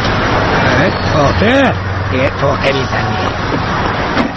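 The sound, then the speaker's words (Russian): A steady, loud rumble of a city bus and street traffic fills the scene, with people's voices talking over the constant engine drone. “В автобус садится слепой человек.”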